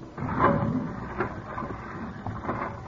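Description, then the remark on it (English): A heavy solid steel door, 2 inches thick and weighing 4 tons, is shut by a guard who pressed a button: a loud grinding scrape swells early, then a steady metallic rumble drags on for a few seconds with no voices. “All right, guard. Will you close it, please?”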